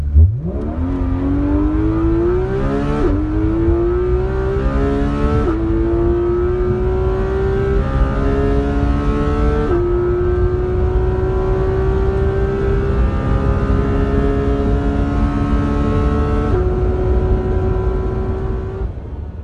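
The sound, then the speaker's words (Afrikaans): A sports car with 383 kilowatts and 470 newton-metres of torque, doing 0 to 100 km/h in 3.2 seconds, roars and accelerates hard, its pitch climbing steadily and dropping briefly at each of several gear shifts. Loud and continuous, with no talking. “want soos ek nou net gesê het, 0 tot 100 km per uur 3.2 sekondes, jy kan dit hoor deur hierdie klanke.”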